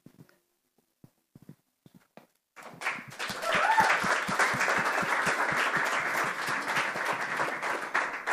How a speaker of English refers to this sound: So praise Yahweh, let's give him a bigger clap. Vďaka Bohu, dajme ešte mu väčšiu chválu.